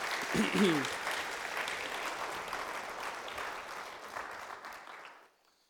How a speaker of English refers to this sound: And let's give them a round of applause for our Serve team.